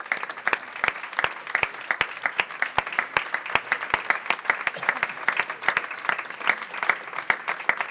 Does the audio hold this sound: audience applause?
yes